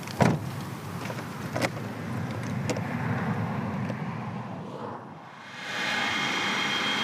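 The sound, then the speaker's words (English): The AMI radio telescope array at the Millard Radio Astronomy Observatory buzzes with a steady, droning mechanical whir, punctuated by a few sharp clicks. It dips briefly, then returns brighter and hissier. No voices. “that buzzing noise you can hear is AMI.”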